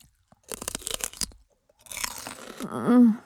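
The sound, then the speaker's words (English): Loud crunching as a celery stalk is bitten and chewed in a quick burst of crisp snaps, then softer, wetter chewing that ends in a muffled throaty sound as the celery is briefly inhaled. “Not really nutritious, but it's awfully fun to chew.”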